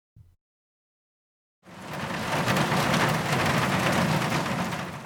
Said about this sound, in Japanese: 雨の音が現実へ引き戻す。